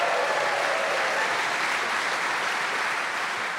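The studio audience of the show Just a Minute applauds steadily and loudly for several seconds, a dense wash of clapping with a few cheers mixed in, no one speaking over it, welcoming the four players Jenny Eclair, Kyle Smith-Bino, Julian Clary and Josie Lawrence.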